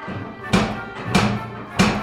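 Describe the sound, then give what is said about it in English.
Three firm knocks on the wooden front door of a house in the snow, evenly spaced about half a second apart, each a sharp, resonant thud that rings briefly before fading. Fairly loud, with no voices. “Well, it took no time at all to march through the snow and up to a rather intimidating front door on a rather intimidating house.”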